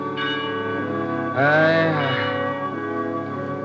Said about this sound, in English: I shall never forget it, the darkness, the foul water, the mists, and the death toll of the Bell of Ely, drifting over the haunted swamps.